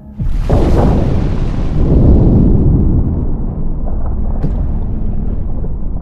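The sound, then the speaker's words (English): A sudden heavy boom gives way to a sustained, deep rumbling roar as the ocean floor begins to shake, churning low and steady for several seconds, with a faint rattle partway through and no voices. “And that was before the ocean floor began to shake slightly.”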